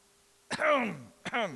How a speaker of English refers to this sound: Got to clear my throat on that one.